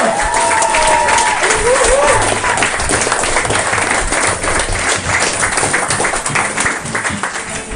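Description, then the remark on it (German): A live audience at the Mad Monkey Room breaks into loud, sustained applause for comedian Maxi Schettenbauer, dense clapping for several seconds, with a couple of brief whistles near the start and a slight fade at the end. “Einen riesengroßen Applaus an Maxi Schettenbauer.”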